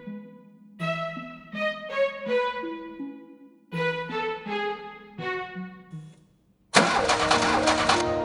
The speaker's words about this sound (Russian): Машина заглохла и отказывается водиться на морозе.